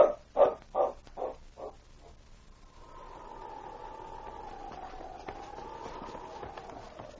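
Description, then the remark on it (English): Five quick barks from a dog called King in a steady rhythm, each fainter than the last, followed after a pause by a long, wavering high-pitched whine that holds steady to the end. No one speaks. “Do you think King will hurt the pups if we let him come in?”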